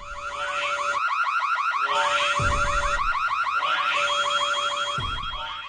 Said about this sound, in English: I'm sorry, these obvious bad guy alarms just keep going off. It must be a bad sensor.